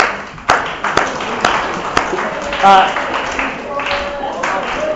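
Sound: audience applause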